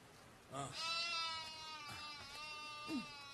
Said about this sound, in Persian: تا نفسی بگیرید شیر گوسفند را دوشیده. خداوند تو را اجر دهد. پیرزن گوسفندی را می دوشد.